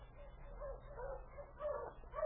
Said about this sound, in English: For two more days, we stayed in the igloo, and then we heard the welcome sound of my dog team.